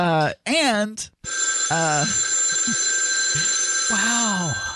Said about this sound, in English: Wow, we have a lot of phone calls. It's almost like we were gone for 2 weeks.